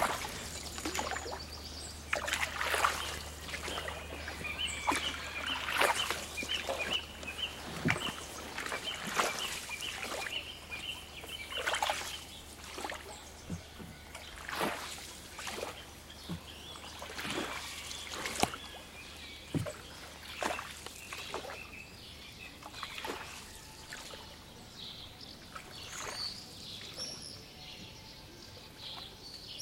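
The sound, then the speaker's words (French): A bird gives repeated thin, rasping calls in a steady series, half-buried under rhythmic splashing strokes of paddles in water and a low, constant hum. “quand il fait très chaud, très sec, il fait le tour de tous ses trous pour voir s'il n'y a pas un petit peu d'eau dedans, et on l'entend râler en quelque sorte, appeler l'eau après la pluie, quoi.”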